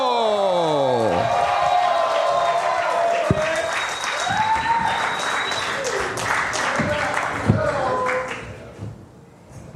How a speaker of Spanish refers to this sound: Fuerte aplauso